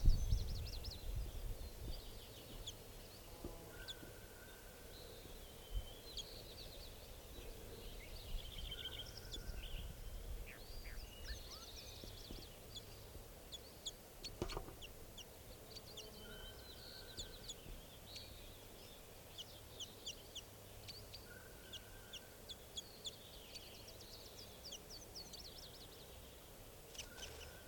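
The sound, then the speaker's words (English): A single bird, apart from its flock, calls repeatedly in short, high chirps and twittering notes at a camp by a clearing, fairly faint, with a soft, steady outdoor background and no talking. “So, one of the birds here is calling.”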